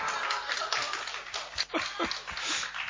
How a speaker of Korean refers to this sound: 여러분, 이때는 우리 다 일어나서 박수 쳐야 되는